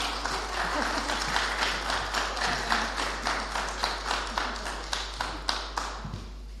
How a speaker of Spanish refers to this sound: Con este chascarrillo o broma, me gustaría, y cedo la palabra, que venga ahora la rectora de la Universidad Politécnica, cuando quieras. Le podemos dar un fuerte y caluroso aplauso.